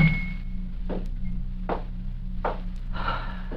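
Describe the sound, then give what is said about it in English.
A door being shut: a handful of soft, muffled thumps and knocks spaced about a second apart, over a steady low hum with no talking. “Close the door.”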